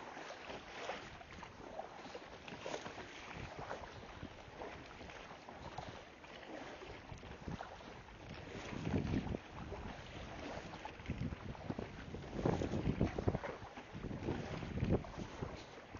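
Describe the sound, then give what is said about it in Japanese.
Kayak paddle strokes, paddled hurriedly at sea to get past the next wave, splash through seawater in a steady, repeating rhythm, louder in the second half, with continuous wind buffeting the microphone throughout and no voices. “パドルが水を、海水をかぐ、漕ぐ音、聞こえますかね。”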